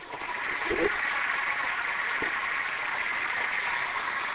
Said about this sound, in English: Just as I expected, that was a very warm reception, and I'm sure Watson would have appreciated the applause, except for one thing.